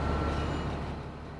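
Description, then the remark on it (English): Steady low rumble of a city bus engine and road noise as heard from inside while riding through Taipei, continuous and fairly loud throughout, with no voices. “And this bus only beeps when it turns, so that's not so bad.”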